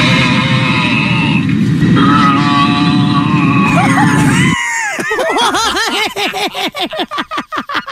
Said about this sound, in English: had its intercom hacked by a person who grunted the entire trip. What? How do you hack an intercom system? That is a great question. But here, you want some audio? Yeah, I do. All right, here's what it sounded like for the passengers on this flight.